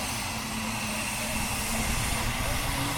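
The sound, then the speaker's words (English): A second aircraft engine starts up, adding to a loud, steady propeller drone with a low humming tone that fills the whole stretch without pause. “Yeah, that's the second engine coming up.”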